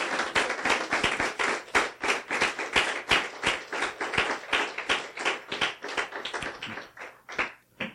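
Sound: audience clapping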